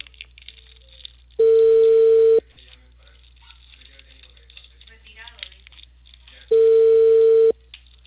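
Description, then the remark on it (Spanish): An outgoing phone call rings on a line: two long, steady ringback tones about five seconds apart, with only faint line hiss between them and nobody picking up. “No responde, yo no. Sí, estoy intentando.”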